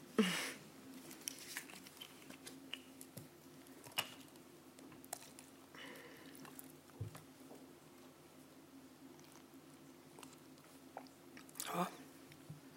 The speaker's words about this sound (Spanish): Perdonad, un momento que beba agua.